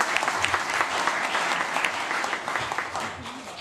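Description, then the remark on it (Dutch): Enthusiastic applause from a group for a child who has just promised to work for all children in the municipality, a dense, steady patter of many hands clapping at once for several seconds, fairly loud and sustained without pause. “Een daverend applaus voor Sil.”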